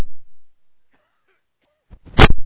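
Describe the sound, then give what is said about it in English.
A single loud cough bursts out near the end after a couple of seconds of near silence, preceded by a brief softer catch of breath. “I'm going to have to get a cough drop out here.”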